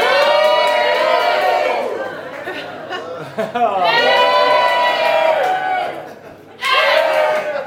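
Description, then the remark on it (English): A crowd cheers and whoops loudly, the noise swelling in waves, easing briefly, then surging back up to full volume near the end. “What about if I move slowly across, and as I get to the point, you start to cheer?”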